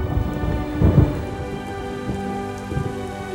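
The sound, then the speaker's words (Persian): Steady rain hisses throughout at a fairly even intensity at a camp near Haft Tappeh, Ahvaz, with a deep rumble of thunder swelling briefly near the start and softer low rumbles later. No voices. “باران شروع به باریدن کرد و هر لحظه بر شدت آن افزوده می شد.”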